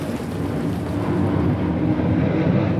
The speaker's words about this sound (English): That's one of the planes we saw landing over the West Hills, the name for the rolling high ground above the Ohio River.